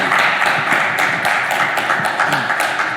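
A crowd applauds steadily, many hands clapping in a dense, continuous patter at an even loudness with no voices standing out.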